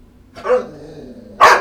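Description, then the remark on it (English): A dog growls low and steady, breaking into two short, louder snarling bursts about a second apart, with no one talking. “Just take it. Don't growl with me.”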